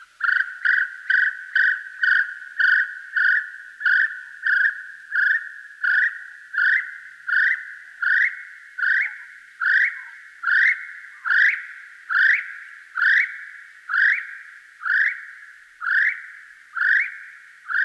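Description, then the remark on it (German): A little spotted kiwi gives a long, steady series of shrill, rising whistles, about two dozen notes in even rhythm, loud, with no other sounds around. “Das war der kleine gepunktete Kiwi, so heißt er.”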